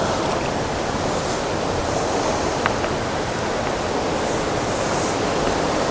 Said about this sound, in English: Oh, it's starting to rain. Oh no.